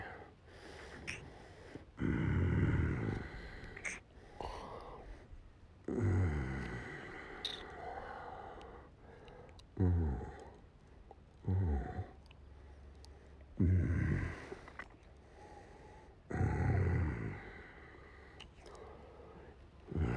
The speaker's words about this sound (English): You like when I growl in your pussy, baby?